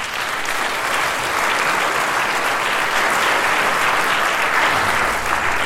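Sustained audience applause for two soloists, a dense wash of many hands clapping at steady loudness throughout, without a break and with no voices rising above it.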